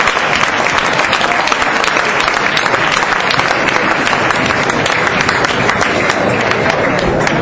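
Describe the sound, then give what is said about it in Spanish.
A large audience applauds the best director award for Nick Broomfield at a press conference, steadily and loudly, a dense wash of many hands clapping that continues without pause for several seconds, with faint crowd murmur beneath. “Nos ha sorprendido quizás el mejor director, Nick Broomfield, pero bueno, premio parece que aplaudido.”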